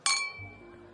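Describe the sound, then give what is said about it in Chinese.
A single bright clink of glasses of alcohol striking together in a toast, sharp at first and then ringing out in a thin fading tone, with a faint low murmur underneath. “这就对了，干杯。”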